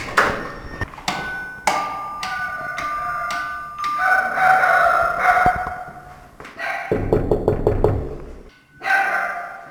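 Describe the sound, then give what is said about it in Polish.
Loud knocking on an apartment door: several sharp single raps, then a quick flurry of blows, with a dog barking and whining inside. “Niestety nikt nie otwiera drzwi, ale stojący za drzwiami to już czuć taki bardzo nieprzyjemny zapach.”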